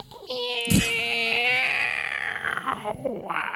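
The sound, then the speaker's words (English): A person imitates a cat with one long, wavering meow, drawn out over a couple of seconds, then trailing off into breathy vocal noise. “I am a cat.”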